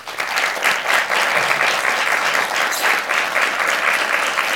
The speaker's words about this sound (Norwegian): Tusen takk for at dere kom, og stor applaus